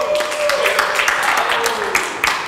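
Steady audience applause: dense, crackling clapping from many hands held at an even level throughout, with a faint voice or whistle briefly rising above it.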